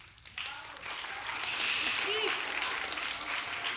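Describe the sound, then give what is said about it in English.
An audience breaks into dense, steady applause that swells quickly after a brief quiet start and holds at a full, even level, with a few voices and a faint whistle mixed in. The applause comes during a sermon about forgiveness. “Let's save all of our claps till the end.”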